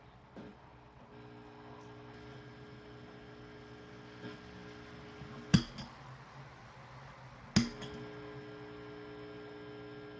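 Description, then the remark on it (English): A steady electrical buzzing hum from a guitar amplifier with a Tele electric guitar plugged in drones throughout, with stacked harmonic tones, interrupted by two sharp clicks or pops around the middle and later; no one speaks. “Just making a buzzing noise.”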